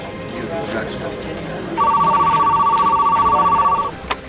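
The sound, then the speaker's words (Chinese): A telephone rings with a fast, buzzing trill that lasts about two seconds, loud, over a busy background of low murmuring voices, as British diplomatic officials phone the US State Department on 21 February 1947. “当日英国外交官员打电话给美国国务院，转达了两个来自英国政府的消息。”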